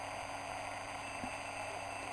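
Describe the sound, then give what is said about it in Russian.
Steady shortwave radio static from an R326 tube receiver with the antenna connected, a constant dense hiss with a faint underlying hum, unchanging throughout and fairly quiet, with no voices. “Вот шумы при подключении антенны.”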